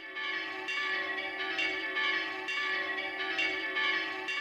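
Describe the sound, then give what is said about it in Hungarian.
A large alarm bell in a castle watchtower tolls again and again all day, each strike landing before the last fades, so its humming ring runs on continuously, loud and steady, with no voices. “A vártoronyban pedig egész nap kongott a vészhirdető harang, s felváltva harsogott a kürt.”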